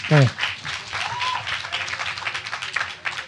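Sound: applause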